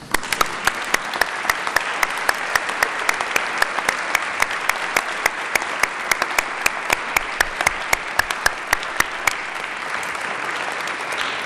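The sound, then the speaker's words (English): Sustained audience applause at a senate session for the families and friends of the members, a dense steady wash of many hands clapping with sharp individual claps popping out, holding an even loudness for over ten seconds without any voices. “And we all know that they all deserve an applause for putting up with our choice in employment.”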